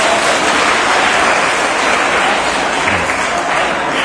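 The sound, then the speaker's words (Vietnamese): A crowd breaks into loud, sustained applause, a dense wash of clapping that holds steady at full volume for several seconds with no voices standing out. “Xin dành một tràng vỗ tay thật lớn”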